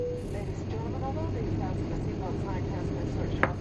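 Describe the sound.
A steady, droning airplane cabin engine hum fills the space evenly throughout, a constant low rumble with a faint tonal whine, with indistinct murmuring voices underneath.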